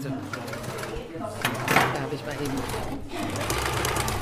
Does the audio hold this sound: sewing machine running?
yes